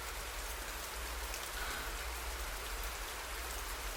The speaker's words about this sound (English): It's still raining outside.